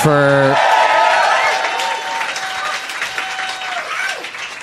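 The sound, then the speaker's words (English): A crowd at an Upright Citizens Brigade improv comedy show breaks into loud, sustained applause with whoops and cheers for the staff, a brief vocal shout opening it before the clapping rolls on steadily to the end. “Let's hear it for them.”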